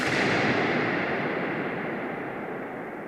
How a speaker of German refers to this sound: Und so klingt der platzende Luftballon in der Hagia Sophia.